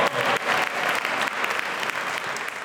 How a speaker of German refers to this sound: So hat die 72-Stunden-Aktion in Schweinfurt angefangen. Mit ganz vielen Luftschlangen und Applaus.